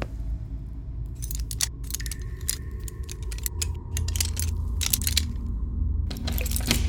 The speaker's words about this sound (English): Hey, hold on. I need you to lockpick this door.